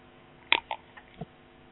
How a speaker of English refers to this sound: Now, let me have a sip of water.